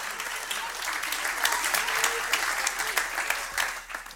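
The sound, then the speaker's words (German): A room full of people claps steadily for several seconds, a dense patter of many hands with no clear rhythm, moderately loud throughout, applauding the shepherds. “Danke, einen Applaus für die Hirten.”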